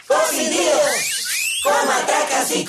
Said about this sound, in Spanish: ¡Con aplausos!